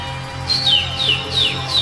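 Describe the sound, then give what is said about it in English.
A little bird chirps four times in quick, evenly spaced, high descending tweets, clear over a low, steady background hum. “I think that sounds like a little bird.”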